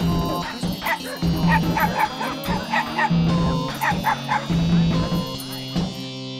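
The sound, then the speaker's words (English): A dog barks and yips repeatedly in quick, excited bursts, fairly loud, with short whiny yelps mixed between the barks. “Happy dogs are pretty much the only thing I can unselfconsciously enjoy anymore.”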